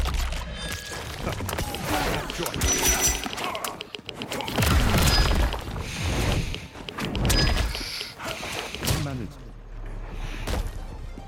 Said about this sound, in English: He pummels their face, shattering their skull and spraying blood everywhere.